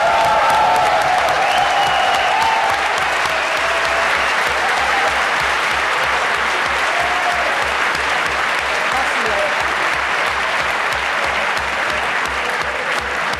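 Sustained audience applause, dense and steady clapping from many hands at an even loudness for the whole stretch, with a low rhythmic thumping pulse running underneath and a few faint whoops.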